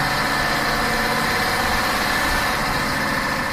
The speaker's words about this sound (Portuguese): Atenção, grupo Nunca é Tarde para Viver, o motor do ônibus já tá roncando.